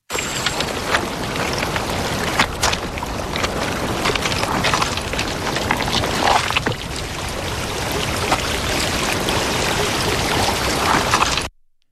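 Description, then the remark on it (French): Someone wades through water, feet sloshing and splashing irregularly amid a dense, steady crackle of plants and water, with a few sharper splashes standing out. No voices. “Il y a l'air d'avoir quelqu'un qui marche dans l'eau.”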